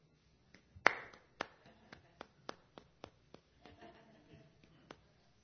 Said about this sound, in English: And it's called the dreaded sympathy clap. The dreaded sympathy clap. And it looks like this. It looks like this.